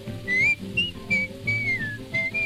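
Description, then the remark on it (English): Someone whistles a cheerful, bouncy melody in short phrases, the clear tones sliding up and down over a warm instrumental backing of strings and low accompaniment. “Whistle loud and long. Just come a merry tune.”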